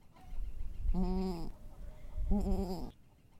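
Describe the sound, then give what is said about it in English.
A mother goat calls twice to her newborn kid: two short, wavering bleats about a second apart, moderately loud, over faint low background rumble with no talking. “That noise that she's making is very specific. I mean, she only makes that noise for her babies.”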